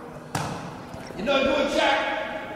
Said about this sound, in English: No good, Shaq. Oh, oh. Shoots long, comes short. Hit the rim. Is that just the right expression? Just hit the front of the rim.